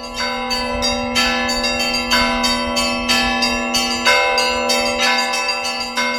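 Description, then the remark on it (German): Orthodox church bells ring loud from the onion-domed bell tower of the Assumption Church in Kaluga, Russia, a bell ringer's set of 15 bells: small bells struck in a quick, steady rhythmic pattern over the sustained hum of a larger bell, with no voices. “Wir nehmen nur mal zwei Stege mit Aussicht auf die Stadt und dann sind wir endlich auf der Höhe von der Glocke und der Zwiebeltürmini mit der orthodoxen Kreuz.”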